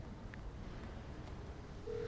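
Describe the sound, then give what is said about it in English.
A few faint, short electronic beeps from a phone keypad as a woman enters a phone number into her phone to call someone, sparse and irregular over a low background hum, with a steady tone starting at the very end. “Julia enters the number into her phone.”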